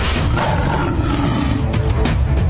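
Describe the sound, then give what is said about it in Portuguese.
A lion roars loudly in a video posted on social media by Brazilian president Bolsonaro, a deep, sustained rumble with growling texture filling the whole short stretch, and no voices present. “O presidente postou nas suas redes sociais um vídeo se comparando a um leão sendo atacado por hienas, que representavam partidos políticos, veículos da mídia e órgãos do governo, como o STF.”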